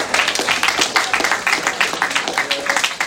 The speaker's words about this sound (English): All right, we just got to give them a round of applause. Yeah. Thank you so much.